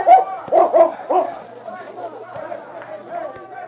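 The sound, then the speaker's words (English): A dog named King barks loudly after sniffing the ground near the back door of a cafe, four quick barks in a row signalling he has found a scent, then the barking stops and a murmur of crowd chatter carries on in the background. “he stopped and barked to indicate he had found the scent.”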